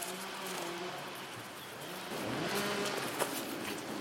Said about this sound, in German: Immer näher kommen wir den Kettensägen.